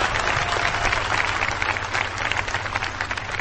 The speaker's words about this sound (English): I am so proud of these graduates. We have to just give them one big round of applause before I start.